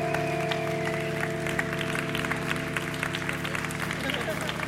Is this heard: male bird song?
no